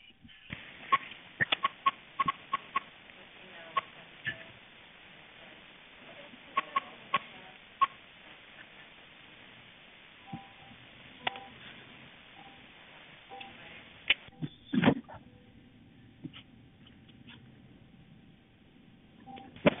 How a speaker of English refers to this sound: So in this part of the 911 call, you'll hear a lot of clicks and beeps, but that's pretty normal for a 911 call, and we're keeping them in so you can hear everything that was provided to us.